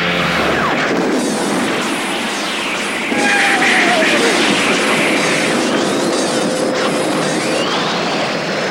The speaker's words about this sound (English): The blast of energy roars forth from the prow of the Argo and smashes into the Valbardin fleet. The lead formations are instantly vaporized as it continues onward. Eventually, the blast fades, leaving only debris in its wake.